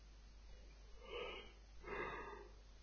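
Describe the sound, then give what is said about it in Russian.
A quiet yawn in two drawn-out breathy phases, a long inhale followed by a voiced, sighing exhale, with no talking. “О, зеваешь уже.”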